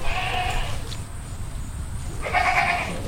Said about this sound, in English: He's protecting an unusual herd of goats and sheep from lurking coyotes. Among them are hairless-faced Gulf Coast sheep, Hog Island sheep with curled horns, and Tennessee fainting goats